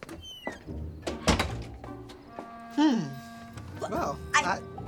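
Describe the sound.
A front door swings shut with a single solid thunk, followed by scattered voice sounds and a rising-then-falling vocal tone.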